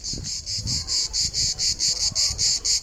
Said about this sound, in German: Hört sich so ein bisschen an wie eine Grille, ist aber genauer gesagt eine Zikade. Und diese Insekten, die sind bekannt durch ihre lauten Geräusche.